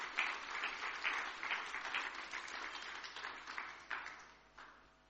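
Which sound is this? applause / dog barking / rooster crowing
applause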